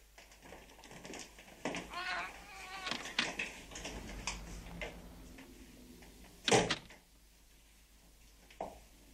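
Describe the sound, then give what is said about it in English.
A door is opened with a sharp clunk partway through, followed later by a softer knock, while a cat meows earlier over faint background rustling. “Don't open the door, please.”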